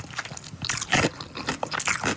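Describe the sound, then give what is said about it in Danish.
Crunchy pickles being chewed loudly by a woman, a run of crisp, wet crunches in quick, irregular succession with no talking. “Er du sindssygt, de er sprøde, de der pickles der? Ja, det lyder godt.”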